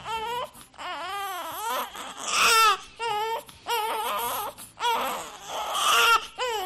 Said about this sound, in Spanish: Un bebé llorando desconsoladamente, como el que estamos escuchando, que arranca poquito a poco, pero luego además es uno de esos sonidos que te llegan hasta las entrañas, ¿verdad? Es imposible permanecer impasible ante él.